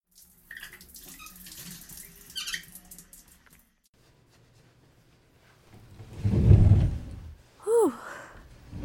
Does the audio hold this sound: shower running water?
yes